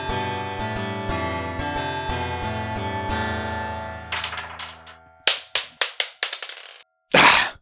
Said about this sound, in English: Another floor dice. If there was only a dice rolling tray.